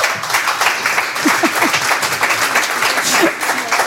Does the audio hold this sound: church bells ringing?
no